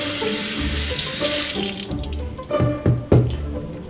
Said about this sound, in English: Now I happen to know that the cutting board, since it had chicken on it, it could be contaminated. So I'm going to wash off the cutting board.